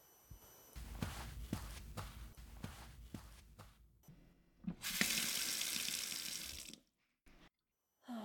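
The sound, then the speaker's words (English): A series of footsteps and soft knocks, then a sink tap turns on and cool water gushes loudly for about two seconds before shutting off, with a brief splash after. “Cool water feels so nice.”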